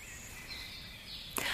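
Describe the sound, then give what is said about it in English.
A cricket chirps in a steady, high-pitched trill that runs continuously through the short clip, fairly soft, with a brief sharp click just before the end. “Thank you, dear Cricket, that I can hear you right now.”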